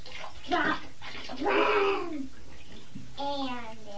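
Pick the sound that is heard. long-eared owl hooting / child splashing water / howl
child splashing water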